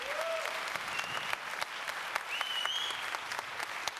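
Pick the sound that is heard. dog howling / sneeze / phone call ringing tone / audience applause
audience applause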